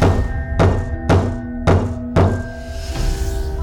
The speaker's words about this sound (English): A slow, methodical knock shook the front door.